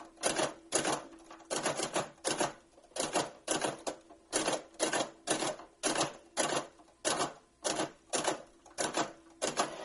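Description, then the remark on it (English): A Hammond typewriter's motor winds up its spring with a steady run of sharp, bright mechanical clicks and clatters, repeating in quick regular bursts for about ten seconds, with no talking. “Okay, now listen closely for the motor to wind up the spring.”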